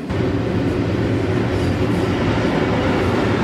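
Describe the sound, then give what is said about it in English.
A train rumbles past the airport Marriott hotel, a steady, loud, dense roar of rolling wheels and heavy low-end rumble with a faint rhythmic clatter, continuous throughout. “Not only airplanes, but trains.”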